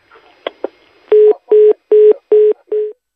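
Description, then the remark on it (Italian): Two quick clicks, then five evenly spaced electronic phone tones pulse steadily, each about a quarter second long and loud. A call to Umberto Bossi's mobile phone is being dialed and ringing out. No one speaks. “Secondo squillo.”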